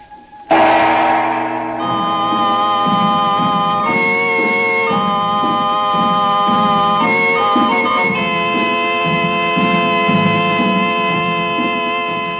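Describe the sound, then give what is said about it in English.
A train pulling out, with a loud, sustained multi-tone whistle holding steady over a low, rhythmic chugging that continues throughout. No voices. “Oh, Mother, listen. The train's going.”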